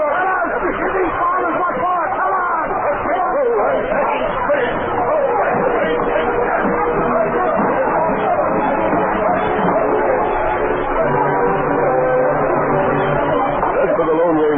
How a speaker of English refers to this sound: The farmers closed in on Spade's gang. Chairs were smashed, bottles thrown.